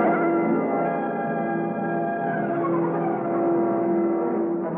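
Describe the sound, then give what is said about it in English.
A car engine hums steadily, a rich, even drone that holds its level throughout with no fade, as the car pulls out and drives off toward City Island and the Island Yacht Club. No one speaks. “got into his car and we drove out to the City Island and the Island Yacht Club.”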